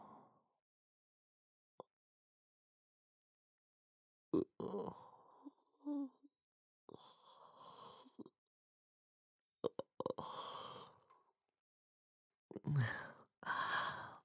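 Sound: yawn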